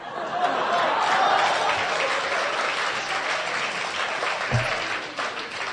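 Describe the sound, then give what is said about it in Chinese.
Steady, dense applause from an audience after opera singing fills the whole stretch, a continuous wash of many hands clapping at fairly loud volume with no voices standing out. “就这您还给鼓掌呢，您听见唱的什么词儿了吗？”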